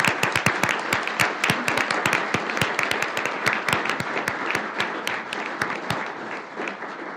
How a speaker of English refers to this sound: And so if everybody could join me in a round of applause, thanking him for his service.